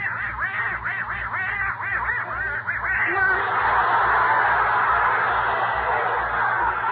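duck quacking

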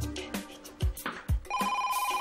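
telephone ringing

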